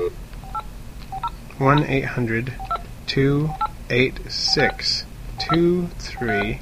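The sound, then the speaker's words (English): A series of short, steady telephone keypad tones beeps in quick irregular succession as the toll-free Aquatic Life Conch Line number is dialed on the air, interleaved with a person speaking over them. “You could call this toll-free number and listen to the sounds of the sea at any time.”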